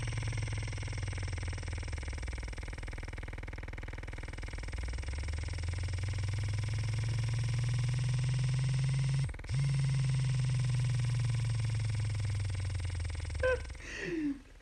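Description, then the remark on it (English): A vibrating toy buzzes in a steady, low droning hum that slowly swells and fades, cutting out for a split second midway, with a few rattling clicks near the end. No one speaks. “The thing has quite an interesting vibration mode. Do you hear that?”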